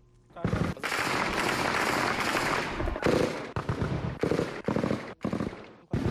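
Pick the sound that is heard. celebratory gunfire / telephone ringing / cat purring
celebratory gunfire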